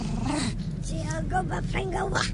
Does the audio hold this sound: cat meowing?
yes